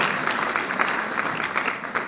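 An audience applauds steadily throughout, many hands clapping at once in a dense, even crackle that holds its loudness for the whole couple of seconds.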